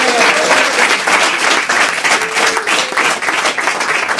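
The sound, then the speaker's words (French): Steady applause from a live studio audience, a dense wash of many hands clapping at an even loudness for several seconds, with faint voices mixed underneath; the audience applauds to encourage a woman. “Applaudissez-la pour l'encourager.”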